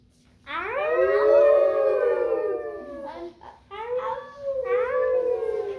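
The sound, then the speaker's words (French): Long, wavering wolf howls rise and slowly fall, followed by several shorter overlapping howls, loud and clear with no talking. “Ils rencontrent des loups.”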